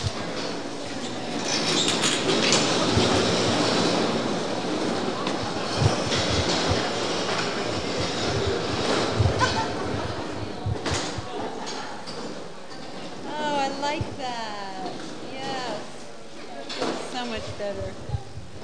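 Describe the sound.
A steady clatter of chairs scraping and thumping across a hard floor as an audience picks up their chairs and moves them forward toward the speaker, with murmured voices and chatter mixed into the noise throughout.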